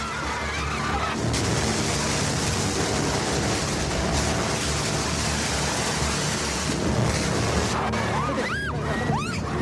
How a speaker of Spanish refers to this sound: Eso es un cañón de agua disparando a unos manifestantes.